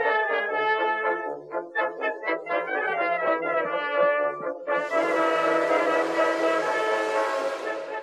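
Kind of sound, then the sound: vehicle, steam train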